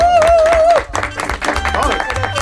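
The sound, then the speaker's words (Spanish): A small group breaks into brisk, spontaneous applause on a morning programme, welcoming guest Malena Alterio. Dense irregular clapping at steady volume, with voices cheering and a sustained high whoop rising over it at the start. “Espontaneidad en el aplauso.”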